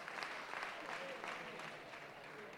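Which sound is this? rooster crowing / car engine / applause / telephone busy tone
applause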